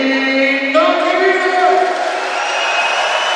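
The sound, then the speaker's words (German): Before the game at the Rothenbach-Halle, a large crowd on the opposite stand cheers and chants loudly, competing to be louder than the other stand, in a steady, unbroken roar with sustained sung tones rising and falling and no single voice standing out. “Also welche Tribüne ist denn lauter? Jetzt wandert er rüber auf die Gegentribüne.”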